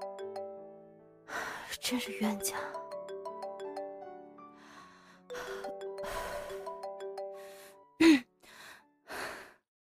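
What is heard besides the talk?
phone ringtone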